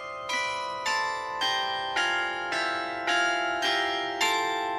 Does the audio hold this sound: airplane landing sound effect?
no